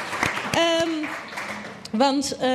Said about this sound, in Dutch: geef hem een applaus.